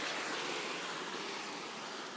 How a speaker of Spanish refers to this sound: Uy, mira cómo se escucha el mar. Mira cómo se escucha el mar. ¿Qué? Que mira cómo se escucha el mar. Qué relajante.